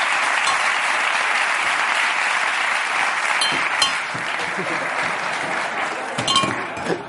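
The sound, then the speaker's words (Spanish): An audience applauds the Revolution on Ice figure skating exhibition show steadily for about seven seconds, a dense, even wash of clapping that stays loud throughout, with a few sharper individual claps standing out near the end. “De patinaje, como de una exhibición sensacional que pongo aquí y pido un aplauso para Revolution on Ice de Javier.”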